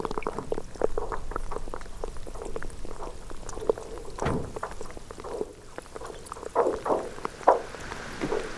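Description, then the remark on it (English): Brash ice percolating among icebergs: a steady, dense fizz of tiny pops and crackles, like bubbling liquid, with a few louder snaps standing out near the end. “So all range of sound from sort of pitched material, again, the groaning, to these explosions when they break apart, and then the brash ice percolating away.”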